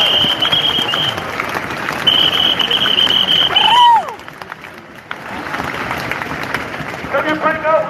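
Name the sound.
audience clapping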